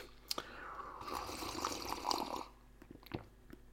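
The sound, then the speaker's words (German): A quiet liquid sound of someone taking another small sip of a drink, with a soft slurp and a few small clicks and taps around it, no talking. “Nein, welcher Millionär das war und was es mit dieser Taschenuhr auf sich hat, sage ich Ihnen nach einem weiteren Schlückchen.”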